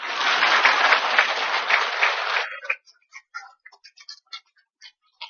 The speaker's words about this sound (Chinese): 现在鼓掌吧。